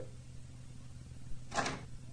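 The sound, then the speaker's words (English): A couple of soft, hesitant knocks on a door, the second a brief sharper rap, over a low steady hum with no one speaking; timid knocking at a neighbor's door early on a Saturday. “Early on Saturday, the neighbors all heard the rumble and squeak of Jenny's wagon on the front walk, followed by her timid knocking at the door.”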